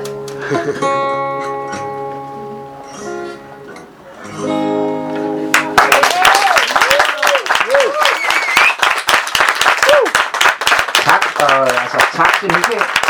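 A sung passage gives way to loud, dense audience applause that continues steadily to the end, with scattered cheers and whoops rising over the clapping.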